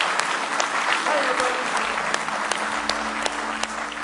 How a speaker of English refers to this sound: Somebody say praise the Lord. Let's give Him one more hand clap of praise tonight.